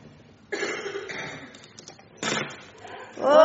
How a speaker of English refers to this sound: Who's going to open door one? Okay.